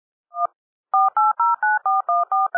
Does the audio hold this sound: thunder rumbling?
no